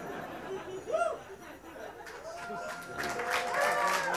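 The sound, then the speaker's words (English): A live audience at a music performance on Thanksgiving in America breaks into cheering and applause, starting with scattered whoops and swelling into a fuller burst of clapping and shouts in the last second or so, with laughter mixed in. “No, don't cheer for kicking out the Indians.”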